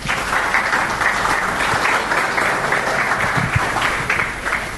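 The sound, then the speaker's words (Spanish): Sustained applause from an audience welcoming a speaker to a talk, a dense, steady patter of many hands clapping at even loudness for several seconds, tapering slightly at the very end. “Con ustedes, recibamos con un aplauso, por favor,”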